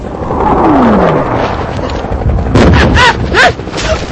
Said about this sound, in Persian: سوتو که شنیدی قبل از انفجار بشین بابا ترکش میاد، خدایی نکرده.